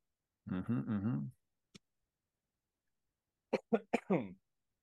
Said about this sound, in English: We're going to take a sip of water. Feel a cough coming on.